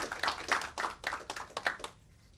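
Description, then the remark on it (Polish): A short round of audience applause: many hands clapping in a dense, irregular patter for about two seconds before it quickly dies away into quiet. “Prosimy o brawa raz jeszcze.”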